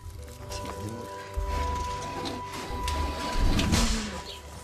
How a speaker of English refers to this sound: They lift her from the examination table into a transportation cage. Dried grass is put in for her to rest her head on. Then the door is closed.